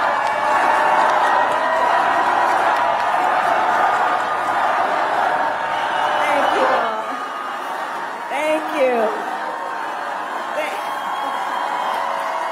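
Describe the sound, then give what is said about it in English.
A huge crowd at a Kamala Harris rally in Milwaukee roars and cheers as she comes to the stage, a loud, unbroken wash of noise that eases slightly midway, with a few individual shouts rising above the din. “Harris comes to the stage and the crowd is deafening.”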